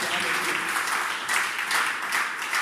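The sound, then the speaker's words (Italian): An audience applauds together in the name of Jesus Christ at the close of a prayer, a dense, steady wash of many hands clapping at a loud, even level throughout, with no voices standing out above it. “nel nome di Gesù Cristo ti prego per i bisognosi, anche nel nome di Gesù Cristo che applaudiamo.”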